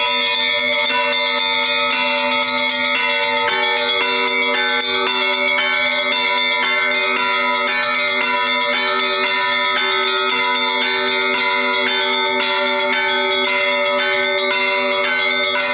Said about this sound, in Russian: Впоследствии на протяжении веков традиция звона немного поменялась, и на наш звон современный повлияла традиция западного христианства. То есть мы начали звонить в современные колокола, которые вы можете увидеть на любой из колоколен.